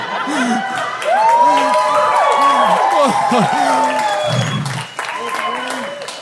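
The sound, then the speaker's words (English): A crowd bursts into applause, with steady clapping mixed with cheers, whoops and scattered shouting that swells and stays loud for several seconds before easing slightly. “And believe me, despite your applause, it feels just as awkward now as it did back then.”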